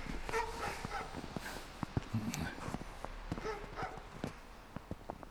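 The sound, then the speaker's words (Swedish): Several larger tied-up dogs bark and yip in short, irregular bursts as people carefully approach, with faint footsteps and a low murmur of voices underneath. “Det är olika större hundarter som ger skall när vi kommer, och vi närmar oss försiktigt, de verkar vara bunna.”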